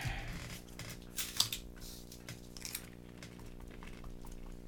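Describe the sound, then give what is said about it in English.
Crunchy bread being chewed: a run of dry, crackly crunches with one sharper snap partway through, fairly quiet over a steady low hum, with no talking. “That is some crunchy bread.”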